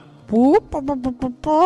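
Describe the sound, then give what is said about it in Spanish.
A human voice imitates a dove, coming out more like a hen: a rising drawn-out coo, then a quick run of four short clucking pulses, ending on another sustained note. “Perdón, eso es más gallina.”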